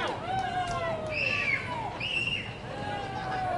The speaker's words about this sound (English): fans are trying to get the wave going down in the crowd.